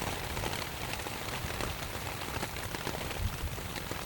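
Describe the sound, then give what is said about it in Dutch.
A steady, even wash of pink noise that sounds much like rain pattering on a surface, constant and moderately loud throughout with no voices. “Terwijl de roze ruis vergelijkbaar is met het geluid van een waterval of de regen.”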